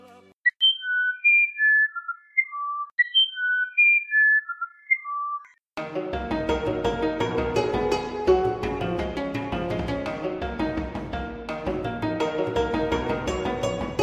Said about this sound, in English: From the Amazon forest comes the uirapuru. Its song is long and melodious, similar to a flute, and is only heard at dawn or dusk, when it builds the female nest, for only 15 days a year.